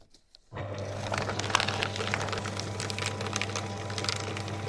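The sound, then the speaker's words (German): A paper shredder at a school starts up abruptly and grinds steadily through a printed name list a woman no longer needs, a constant motor hum beneath crackly, tearing bursts, fairly loud with no talking. “Wenn sie ein Blatt nicht mehr braucht, macht sie daraus Konfetti.”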